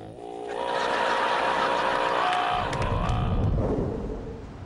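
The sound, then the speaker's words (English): A car engine hums with a steady tonal whine, then gives way to a broad rush of road noise as the vehicle drives along in morning traffic; fairly loud, with no talking. “In the car, Sheldon's sitting sullenly next to Leonard, who's driving.”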